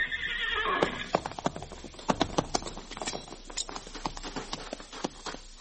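A horse being ridden whinnies loudly for about a second, then its hooves clip-clop in a quick, uneven rhythm on hard ground, without any talking.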